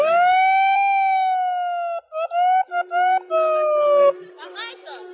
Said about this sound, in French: Et... ils font klaxonner le Thalys et tout le monde est mort de rire. C'est énorme, c'est énorme. Ça fait entendre notre voix.